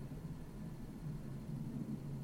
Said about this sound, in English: Please excuse the airplane.